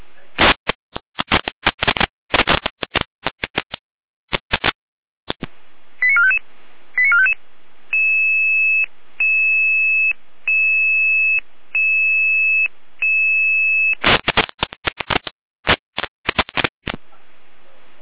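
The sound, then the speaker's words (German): A fire brigade radio alert sounds: a few short tone bursts, then a steady series of evenly spaced two-tone beeps, loud and clear, framed by crackly, clipped radio-style noise, calling units to a fallen tree blocking the B85 road between Unterlogwitz and Hockeroda. “Jener mit Alarmierung.”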